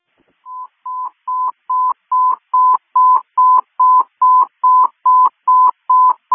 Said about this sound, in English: Huntley units, disregard those tones. We're going to be reconfiguring.